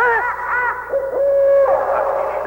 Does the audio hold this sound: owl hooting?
yes